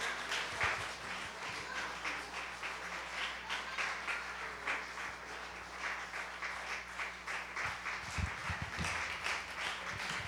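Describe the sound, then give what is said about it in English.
A crowd applauds steadily for about ten seconds to welcome people coming up to be baptized, dense overlapping hand claps forming a continuous, even wash of sound with no voices standing out. “Keep clapping for them. Keep clapping.”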